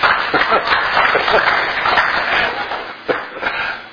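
A crowd breaks into steady applause, many hands clapping in a dense, continuous patter that holds at a fairly loud level for a few seconds, with a brief dip near the end.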